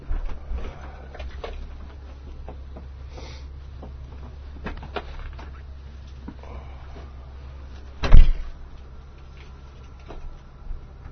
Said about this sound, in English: Obviously, the bus is here.